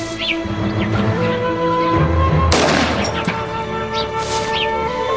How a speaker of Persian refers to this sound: بگیرش و شلیک کن